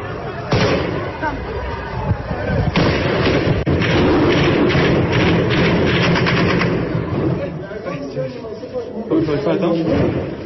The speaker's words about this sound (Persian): اتفاقی که در تصاویر شبکه‌های اجتماعی در روز سه‌شنبه مشاهده می‌شد و با تیراندازی طالبان نیز همراه بود.